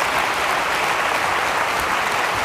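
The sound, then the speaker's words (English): An audience bursts into steady, loud applause to praise God, dense clapping from many hands holding an even level throughout without a break or any voices standing out. “Give the Lord a hand clap and praise God for it.”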